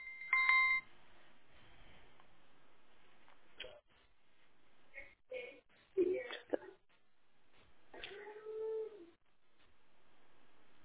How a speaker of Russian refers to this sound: Попробуйте сейчас, например, 060 набрать время.